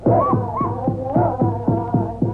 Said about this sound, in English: Hear those Indian tom-toms? They're beating out a throbbing rhythm for an ancient tribal dance, the Indian corn ceremonial dance, a tribute to corn, the principal food of the red man.